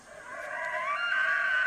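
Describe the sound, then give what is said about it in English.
An elk's screaming bugle call: a sustained, high, whistle-like tone that climbs in pitch and holds steady, heard on its own at moderate volume with no one talking. “That was an elk.”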